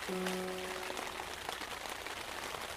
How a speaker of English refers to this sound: But as I hear that rain falling down, as you can hear the rain falling down too, can't you? You can hear the hard rain falling down, reminding you of the simple truth.